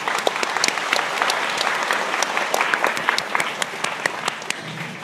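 An audience applauds to welcome a speaker, dense steady clapping with many sharp individual claps, holding an even loudness for about five seconds with no talking.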